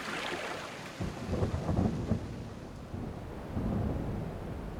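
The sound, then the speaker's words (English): A thunderstorm at sea rumbles with rolling, low booming thunder that swells in waves over steady rain hiss and choppy water, building louder toward the end. No voices. “We make for the shore, and a break from the storm!”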